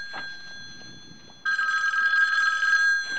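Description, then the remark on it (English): A telephone bell rings loudly for an expected long-distance call, a sustained metallic trill starting abruptly partway through and continuing to the end, after a brief quieter stretch. “I'm expecting a long-distance phone call. There it is now.”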